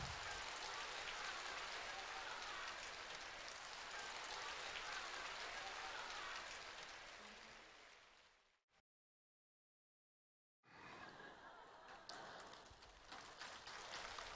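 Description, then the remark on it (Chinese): A large crowd applauds loudly and steadily for about eight seconds to welcome Master Lu Junhong, the clapping tapering off into a brief silence before another burst of dense applause starts up again. “现在，让我们以最热烈的掌声，恭请尊敬的卢军宏台长为我们慈悲看图腾。”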